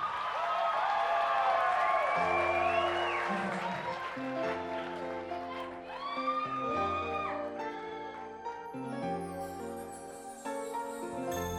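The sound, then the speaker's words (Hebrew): An audience applauds and cheers loudly for about two seconds for a performer invited to the stage, then the clapping fades under music as a band starts playing and a voice begins singing. “חברים יקרים, תנו כפיים”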